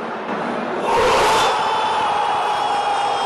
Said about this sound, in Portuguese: o estádio vai ao rubro. O ambiente é de festa.